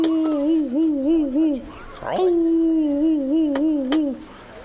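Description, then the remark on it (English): An old hound dog named Lightning, a deer dog with an easy, nice voice, howls twice in long, mournful notes. Each steady mid-pitched tone wobbles up and down in a slow vibrato, with a brief break between the two drawn-out howls. “And I remember one old hound who had seen many a race, and he was getting pretty old, and his name was Lightning, but he wasn't much like Lightning, though.”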